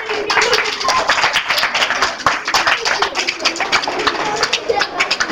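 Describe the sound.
An audience applauds steadily for several seconds, many hands clapping in a dense, even patter at a fairly loud level, with a few voices faintly mixed in.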